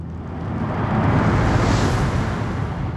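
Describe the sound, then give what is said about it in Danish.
A loud, deep rumbling roar like a drawn-out explosion sound effect representing the Big Bang, swelling slightly and holding steady for several seconds with no voices present. “Og så sker der noget. Et Big Bang. En eksplosion.”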